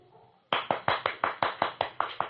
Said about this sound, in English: I was so carried away with it that I suddenly found myself applauding her when she's finished.